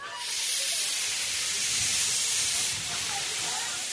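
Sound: historic steam train hissing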